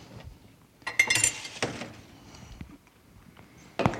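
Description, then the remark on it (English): Two glasses clink and knock together as they are set down on a hard surface for a demonstration with water and salt, a few bright, ringing taps in quick succession, followed by a quieter pause and one more clack at the end. “Two glasses and water, so we can see how powerful salt is, or what salt can do.”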